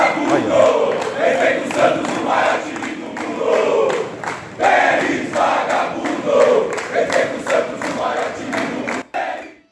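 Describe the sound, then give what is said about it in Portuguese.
An organized supporters' group (torcida uniformizada) chants in unison from the stadium stands, not in support of Pérez, a dense crowd of voices rising and falling in rhythmic phrases, loud and steady throughout before cutting off abruptly at the end. “Eu também não levo muito em conta a torcida uniformizada, Espímpolo, porque vai conforme a onda, entendeu?”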